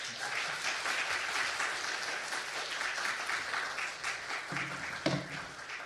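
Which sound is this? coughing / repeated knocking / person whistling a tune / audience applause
audience applause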